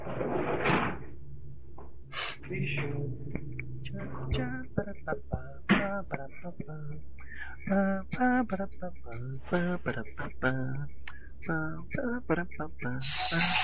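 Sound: bell ringing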